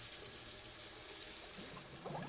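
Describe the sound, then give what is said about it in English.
A bathroom tap runs steadily in a hissing stream as an elderly woman rinses her removed false teeth, with a brief splashing disturbance near the end as the teeth are rinsed under the water. No one speaks. “Nana switches on the tap in her bathroom, removes her false teeth, and rinses them.”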